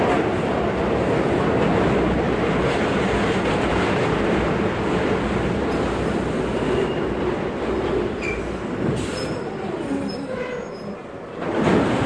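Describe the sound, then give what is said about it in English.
A subway train rumbles loudly and steadily in a station, with a dense low roar, faint rail clatter and a few brief high squeals near the end. “Attention passengers, we are temporarily being held in the station due to cross signals.”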